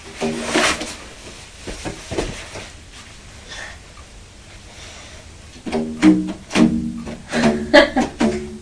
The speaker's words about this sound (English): And this? Is that a musical instrument? Are you playing with the straps on Mummy's rocking chair like you are a musical instrument?